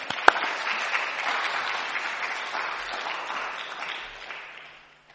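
A crowd claps steadily for about five seconds, a little round of applause for a woman coming up to say a few words, a dense, even patter of many hands that holds its level before gradually thinning out at the end. No one speaks over it.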